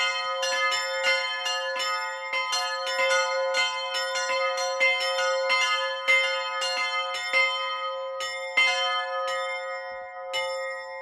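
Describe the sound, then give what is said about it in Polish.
The three largest bells of a church, small signal bells (sygnaturki), ring in a rapid, overlapping peal, bright metallic strikes repeating continuously with a sustained shimmering hum, steady in loudness, with no voices. “to przed Wigilią zawsze wychodzę zadzwonić przez jakieś 3-4 minuty i to tak roznosi się ten dźwięk tych 3 tutaj największych dzwonów. To są ogólnie mówiąc sygnaturki, ale bardzo ładnie niosą się po okolicy, już to sprawdziłem nieraz.”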